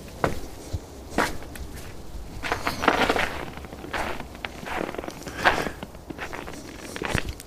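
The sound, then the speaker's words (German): Footsteps crunch through snow in a garden at night under a full moon in cold weather, in a steady, unhurried rhythm, each step a crisp, gritty burst of noise, with no one speaking. “Es ist Nacht und es ist Vollmond und der Garten liegt voller Schnee und es ist wunderschön kalt und knirschig. Könnt ihr das hören?”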